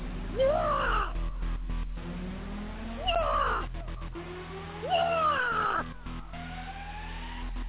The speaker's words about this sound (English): Man, shut the damn bird up, man. That damn bird getting on my damn nerves, man.